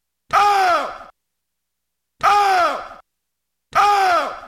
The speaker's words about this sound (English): That mummy screaming into the void can only mean one thing. We've got breaking news here on the Fan Morning Show.